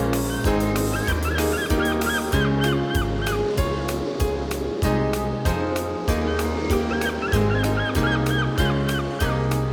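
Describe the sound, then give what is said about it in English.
Repeated squawking seagull calls over a steady, rhythmic music bed, with a faint wash of ocean surf in the background. “and what about the seagulls by the ocean's gentle tide?”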